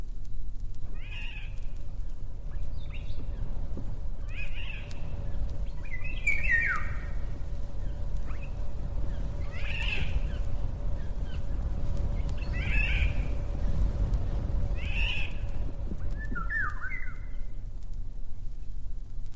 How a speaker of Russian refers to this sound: Правильно, правильно, это Иволга. У нее 2 голоса. Один звонкий, флейтовый, а другой на кошачий смахивает.